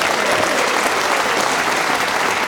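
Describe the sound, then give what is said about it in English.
A crowd claps steadily for a couple of seconds, a dense, even wash of many hands at constant loudness with no voices rising above it. “Some of you not applauding, come on!”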